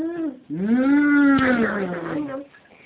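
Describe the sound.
A cow lets out one long, loud moo lasting about two seconds, starting with a short lowing note and then swelling into a drawn-out, rising and falling call, with no talking.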